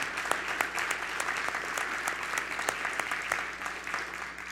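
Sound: audience applauding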